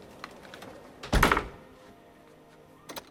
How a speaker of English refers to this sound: Once Alex has gone, Linda locks the door again.